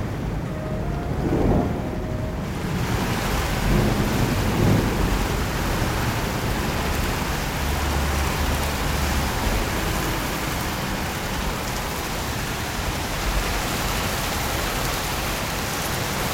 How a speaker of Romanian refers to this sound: Dumnezeu chemă furtuna și îi porunci să sufle cu putere în corabie. Furtuna a fost mai ascultătoare decât Iona. A făcut imediat ce i-a poruncit Dumnezeu.